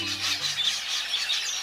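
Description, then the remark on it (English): A dense, continuous wash of high-pitched chattering and rasping calls from a large flock of red-billed queleas, an African bird of south of the Sahara that roams in flocks of 2 million or more. The calls swell and dip in rapid pulses, with a faint low hum fading out early. “In Africa, south of the Sahara, there's a bird that roams the countryside in flocks, hordes really, of 2 million or more.”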